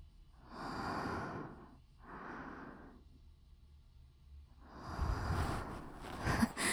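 Heavy, out-of-breath panting: three loud, rough breaths with pauses between them, the last one longer and harsher. No one speaks.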